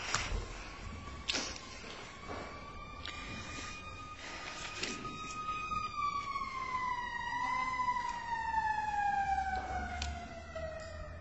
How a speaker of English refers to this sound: We have a ridiculous number of these, of sirens going by here, almost 1 an hour or more. So you can just wait a minute if you like.